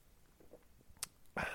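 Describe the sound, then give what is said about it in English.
Someone takes a quiet sip from a drink: faint small mouth sounds, one sharp click, then a short breathy burst at the end. No one speaks. “Hang on, let me take a sip here.”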